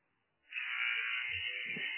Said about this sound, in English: 6 seconds, 5 seconds. They're going to let it roll out. We're going to hear the buzzer.